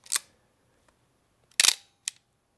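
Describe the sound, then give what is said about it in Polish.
A film SLR camera's shutter clacks sharply, followed by a short, soft ratcheting wind of the advance lever and a final click, all crisp with no talking. “Cichutko się naciąga i bardzo fajnie klapie, jeżeli chodzi o wyzwolenie migawki i bardzo fajne takie krótkie naciąganie.”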